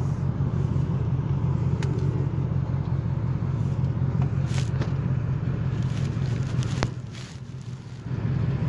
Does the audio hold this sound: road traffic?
yes